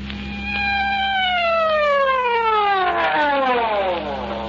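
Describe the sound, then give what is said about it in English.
A loud siren wails and slowly winds down in pitch over several seconds, a steady descending tone with no voices, and a low hum running underneath throughout. “Well, why the siren?”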